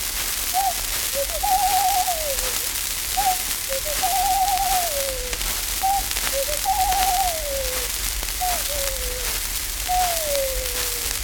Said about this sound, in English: The dominant note in nearly all bird voices is joyous, but there is one notable exception, the ring dove.